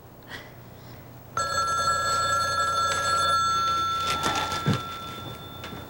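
A telephone suddenly starts ringing loud, a sustained bright bell tone lasting a couple of seconds before fading, followed by a few soft clunks.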